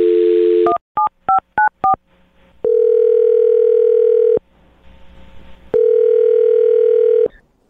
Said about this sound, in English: So we'll find out right now. I'm going to dial his phone number and get him on the phone and see if we can get you an answer, okay?